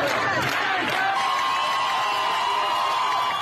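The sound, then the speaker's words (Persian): A large protest crowd shouts and chants together outdoors in Mashhad, Iran, at Moallem Boulevard and Moallem Square, a loud, continuous roar of many voices with drawn-out cries rising above the mass. “صدایی که به رغم محدودیت شدید اینترنت و فیلتر اینستاگرام و واتساپ همچنان شنیده می‌شود از شهرهای مختلف در 4 گوشه ایران.”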